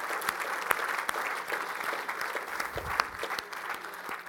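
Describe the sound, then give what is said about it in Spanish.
A church audience applauds for Christ, a dense wash of many hands clapping with scattered sharper claps standing out, sustained at an even loudness for several seconds with no talking. “¿Le puedes dar un aplauso a Cristo, hermano?”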